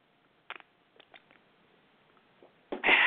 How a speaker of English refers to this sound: Oh, excuse me. Oh, my goodness, I think I better get a little sip of water there, y'all. I'm going to be coughing. Drink a little water right quick.